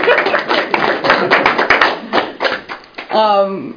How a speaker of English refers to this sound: So we're talking about you. Round of applause for your hard work.